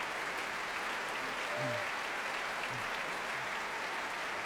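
Warm, sustained applause from a large concert audience, including listeners in the choir stalls, a dense steady wash of clapping, even throughout without any voices standing out.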